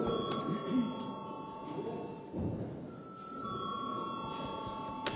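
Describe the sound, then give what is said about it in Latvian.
A parliament chamber bell, called for before a vote on a bill, rings continuously for about five seconds, a steady, bright metallic tone sustained over a low rumble of murmur and shuffling. “Paldies, lūdzu zvanu.”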